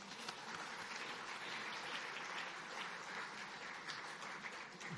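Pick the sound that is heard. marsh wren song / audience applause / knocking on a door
audience applause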